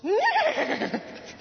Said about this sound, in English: That's when they heard the horse.